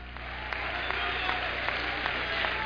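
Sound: audience clapping hands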